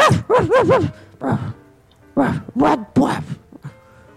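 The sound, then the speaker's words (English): A dog barks in a series of loud, uneven bursts, some drawn out into whiny, wavering yowls, with short pauses between them. “I got a little freaked out by this dog.”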